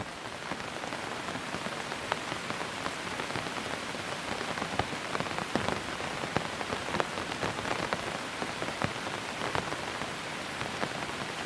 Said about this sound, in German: Kein Verkehr, keine Stimmen, nur das leise Rauschen des Regens.